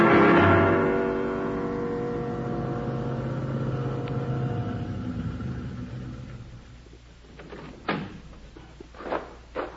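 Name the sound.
car engine driving up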